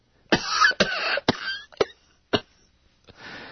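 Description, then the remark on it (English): A voice imitates the coughing fit of a woman with bronchitis: several sharp, harsh cough bursts in quick succession, then a couple of isolated coughs trailing off into a breathy exhale, fairly loud. “She's got bronchitis or something. I don't know. She's coughing every 5 seconds.”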